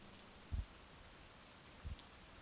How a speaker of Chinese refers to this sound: 没有雷声，非常的安静，只有雨点的声音。